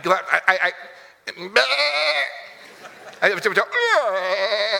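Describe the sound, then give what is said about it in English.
A voice imitates a goat with a series of wavering, nasal bleats, loud, the pitch quivering and sliding in drawn-out cries with brief gaps between them. “You're so used to talking to goats, he just, I don't know what happened.”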